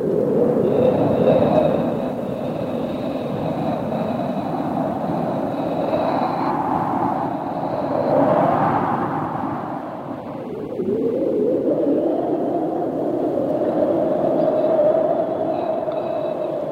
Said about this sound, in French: Ah non, là, pour moi, le vent, c'est la plus belle musique. C'est magnifique. C'est la plus belle musique. Pour moi, le vent, j'ai écrit énormément sur le vent, constamment.